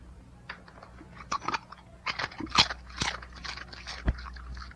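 A dog, Snappo, crunches light, crisp potato chips on the Snappo the Dog Show, a string of irregular, crisp crackling bites and chewing bursts of varying loudness over a low steady hum, with no talking.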